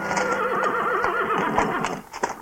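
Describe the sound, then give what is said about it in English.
A horse named Ned, drawing a one-horse shay, whinnies loudly as it is reined in, a long wavering neigh that rises and falls in pitch, ending with a few short snorting breaths. “How would you like to go for a spin in the finest one-horse shay that was ever made by the hand of man?”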